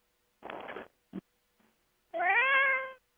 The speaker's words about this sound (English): Hello, kitty cat. Welcome to the call. Who is that that's got the cats? Meow.